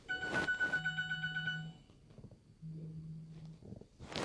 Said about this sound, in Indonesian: Tuh, terus wih, apa ini, alarm lagi. Wait.